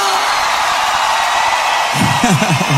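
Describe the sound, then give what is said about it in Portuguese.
A loud, steady roar of a crowd shouting and cheering fills the whole stretch, with a few louder individual yells and whoops rising near the end. “Quem gostou, dá um grito!”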